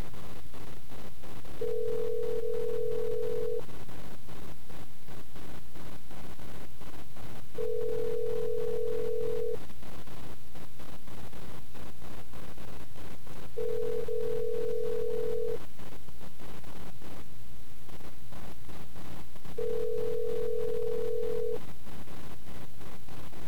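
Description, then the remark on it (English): A telephone ringback tone sounds four times while a call waits to connect, each steady tone lasting about two seconds with a longer pause between, over a low background hum. “Pick up the phone.”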